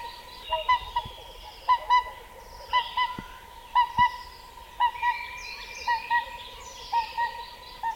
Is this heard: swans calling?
yes